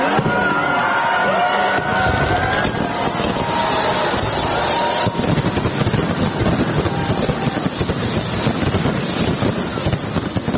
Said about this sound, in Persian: شهر سیدنی با آتش بازی بی سابقه از سال نو 2023 میلادی را استقبال کرد.